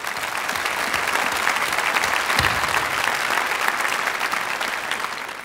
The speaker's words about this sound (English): You want to clap? Let's clap for them. That's great.